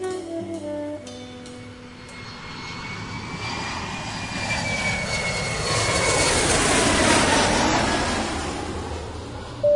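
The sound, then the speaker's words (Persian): A steady, loud airplane engine drone fills the cabin as the plane flies over many schools, a continuous low roar with a whining tone that swells slightly in intensity over time, with no voices present. “مسافران محترم، اگر از پنجره های هواپیما به پایین نگاه کنین، همین الان داریم از روی کلی مدرسه رد میشیم.”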